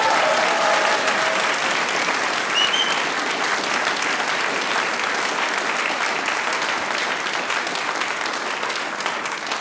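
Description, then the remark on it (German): Sustained audience applause for two singing sisters from St. Martin im Sulmtal at an evening stage event fills the whole stretch, a dense, even wash of many hands clapping at a steady loudness with no speech over it. “Großen Applaus für die Stimmen von ihr und meiner Schwester.”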